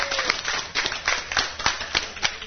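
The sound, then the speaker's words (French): An audience claps together for a young woman introduced as a princess, a dense, steady patter of many hands with a few sharper, louder claps standing out, continuing for the whole stretch without any talking. “Est-ce qu'on peut applaudir notre princesse?”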